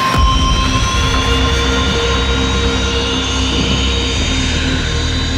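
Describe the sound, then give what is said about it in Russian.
A military jet aircraft engine runs, a loud, steady roar with a piercing turbine whine that holds constant for the whole stretch, with no voices. The aircraft is kept and operated outdoors in harsh Transbaikal conditions, in temperatures from minus 40 to plus 40. “И пока проблем никаких с ним не возникало в плане запуска, эксплуатации.”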